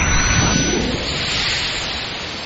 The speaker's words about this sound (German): Eine der unzähligen Therapien führte mich ans Meer zum ersten Mal. Konzentrier dich auf die Wellen. Hör einfach nur auf das Meer. Hör dem Meer zu.